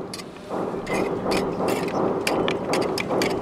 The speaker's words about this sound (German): Es ist hektisch, es ist laut. Bohrer, Hämmer und dauernd Telefonate. Die Zeit drängt. In 4 Stunden soll hier im Museum von Lubumbashi die Ausstellung eröffnen.